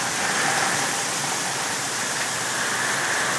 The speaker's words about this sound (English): Really do love the rain. Even when we don't need it, I love the rain.